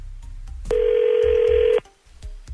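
A single steady telephone ringback tone, a loud, even low-pitched burst lasting about a second, sounds over a quiet background hiss as a call placed by a radio station rings out.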